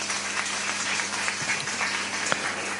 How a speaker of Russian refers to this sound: Бурные овации.